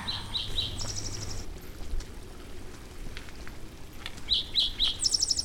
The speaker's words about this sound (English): That was a canyon wren that just sang up here in the rocks, a high descending, beautiful lyrical song.